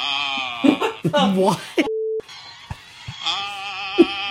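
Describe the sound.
A short, steady telephone tone sounds once on its own for about a third of a second as someone makes a phone call, with voices talking and murmuring before and after it.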